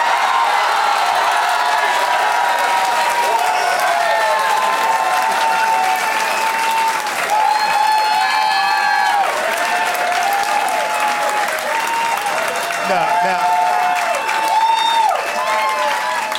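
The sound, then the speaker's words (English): An audience claps steadily and loudly for about sixteen seconds, a dense continuous patter with scattered whoops and cheers rising above it. “I think these are false claps, man.”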